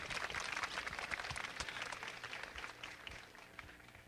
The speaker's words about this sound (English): Let me stop and please applaud. I think this is, to have the President here is a good thing.